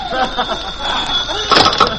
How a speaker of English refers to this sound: Suddenly my phone rings.